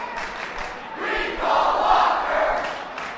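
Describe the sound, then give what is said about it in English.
Hundreds of protesters rallying inside the Capitol, just outside the Senate gallery doors, yell and chant together, a dense, continuous roar of many voices that swells louder around the middle and stays strong to the end. “Hundreds of protesters rallied inside the Capitol, just outside the Senate gallery doors, yelling and chanting.”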